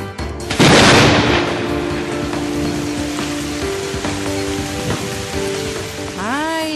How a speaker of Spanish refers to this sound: La lluvia.